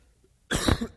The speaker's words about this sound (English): You have to forgive me, I got a bit of a cough this morning.